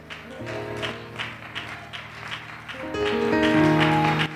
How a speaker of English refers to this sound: It's right that we come into this house and we lift our voice. It's right that we put our hands together and we clap in acclamation to a great and wonderful God.